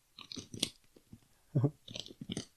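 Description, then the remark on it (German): Crunching on potato chips: a series of crisp, uneven bites and chews, with a louder, heavier crunch near the middle, and no talking. “Ich mache euch mal vor, was passiert, wenn man da reinbeißt.”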